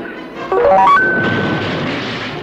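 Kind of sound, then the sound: nature, thunder crash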